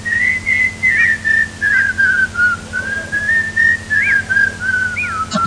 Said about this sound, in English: We go in whistling that, right? I don't know it. Can I whistle the Wild Colonial Boy?